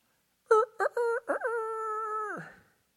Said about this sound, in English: If a rooster crows in the morning, it gets my attention.